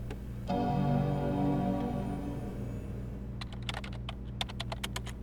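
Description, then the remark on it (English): Quick bursts of clicks from a laptop keyboard, irregular, rise over a steady low hum and a brief chime-like tone at the start. No one speaks. “You're typing, not talking.”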